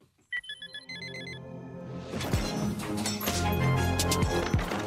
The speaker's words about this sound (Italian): Ogni mattina la Svizzera si sveglia. Una, due, più sveglie.